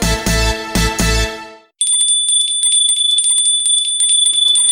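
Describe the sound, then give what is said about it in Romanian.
A small bell chime rings out: a few bright, full struck notes, then a high, shimmering tinkle that sustains steadily to the end, clear with no voices. The chime signals that clues to a secret Bible character are coming. “Dacă auzi sunetul de clopoțel, adu-ți aminte că urmează indiciile pentru personajul biblic secret.”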